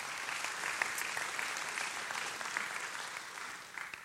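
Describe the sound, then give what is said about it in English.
A church audience claps steadily for the people it has just prayed for, a dense wash of many hands applauding at an even level for about four seconds before tapering slightly at the end. “Now will y'all clap for them and y'all can sit back down?”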